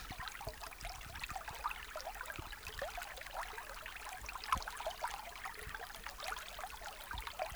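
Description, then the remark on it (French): A small forest stream in Clécy, Suisse normande, France, babbles and trickles steadily, its clear water gurgling over stones with lots of little splashes and bubbling bursts, fairly soft and continuous with no voices. “Il y a un petit ruisseau qui coule au milieu de la forêt.”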